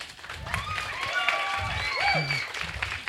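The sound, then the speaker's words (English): An audience applauds the breakers steadily with dense, loud clapping, while shrill whistles and a few cheering voices rise over it for about three seconds. “First, let's give a round of applause to the breakers, por favor.”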